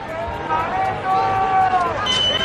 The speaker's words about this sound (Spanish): Con gritos de fuera y de dimisión, así ha sido recibido el presidente del gobierno a su llegada al desfile, unos abucheos que han contrastado con los vítores y aplausos que los asistentes sí han brindado a los reyes